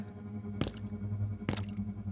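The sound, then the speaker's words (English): Two wet, squelching splashes of a woman's boots stepping through puddles as she walks, about a second apart, over a steady low hum with no voices. “But behind her, the noise started up again, slow at first, and then keeping pace with the splashing of her boots.”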